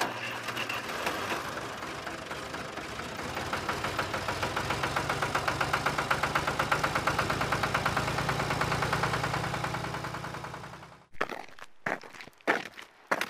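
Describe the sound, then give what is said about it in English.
A tractor engine chugs loudly with a steady, rhythmic knock on Inishere, running for about eleven seconds before cutting out, followed by a few brief, scattered sounds. “Come on up on the tractor so and we'll have a look.”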